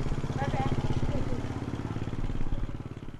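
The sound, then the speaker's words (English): A motorbike engine rumbles steadily, a loud, even mechanical drone that pulses slightly as it rides along on the way to Shanghai, with indistinct voices faintly mixed in. “And for that, she has to get on her motorbike and travel to Shanghai.”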